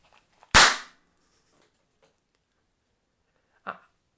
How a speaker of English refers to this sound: And then compare that to my little tiny party popper.